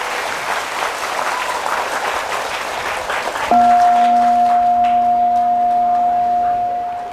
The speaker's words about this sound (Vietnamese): Nếu các bạn thấy là lời khuyên của thầy đó là rất cần thiết để làm theo, thì hãy dâng cao một tràng pháo tay thật lớn để cam kết.